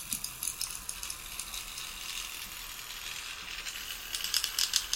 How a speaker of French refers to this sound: Ça, c'est le vrai vol de libellule. C'est vraiment les ailes qui crépitent.